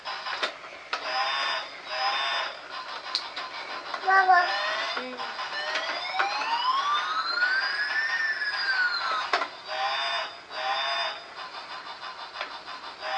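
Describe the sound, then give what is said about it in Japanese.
A toy fire engine siren gives one slow rising-and-falling electronic wail, set among repeated buzzing mechanical bursts, with a child's voice heard briefly before it. “消防自動車。”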